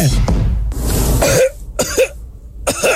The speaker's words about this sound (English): We have an end of the show celebrating … coughing all the way during the news